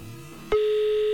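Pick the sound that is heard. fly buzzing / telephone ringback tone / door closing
telephone ringback tone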